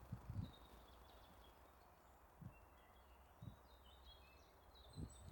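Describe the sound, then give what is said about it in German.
Faint birds twitter and chirp intermittently in a forest, with a few soft low thumps and a steady background hush. “In der Hoffnung, dass man auch das Vogelgezwitscher hört.”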